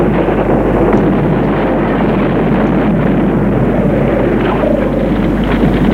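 Roaring flames of a house fire, heard inside the house before any fire is visible: a loud, steady, rushing roar with a deep rumble and restless crackling texture, continuing unbroken throughout without any voices.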